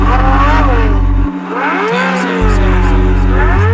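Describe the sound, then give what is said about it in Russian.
A Ferrari sports car engine revs in rising and falling surges over a heavy, booming bass beat, cutting out briefly in the middle before roaring back loud. “И сколько стоит твоя тачка? Тебе она не по карману, Феррари.”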